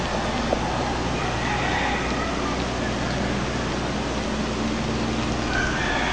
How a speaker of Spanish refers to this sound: Escucha un gallo. Están los gallitos, sí. Ahorita vamos a volver a escuchar. Por cierto, que ese ruido del amanecer es único, relajante.